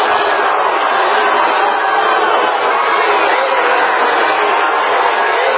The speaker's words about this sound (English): There's people in the background telling everybody to be quiet. There's people in the crowd putting their thumbs down. They don't want anything to do with this.